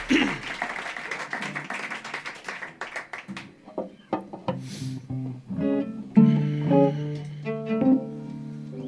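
A burst of audience applause for about four seconds thins into a few scattered claps, then low, sustained stringed-instrument notes sound, like a cello being played or tuned.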